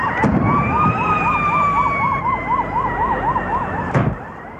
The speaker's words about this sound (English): Sirens and gunshots ring out in celebration in Bamako, the capital of Mali, at West Africa's first ever festival of traditional hunters.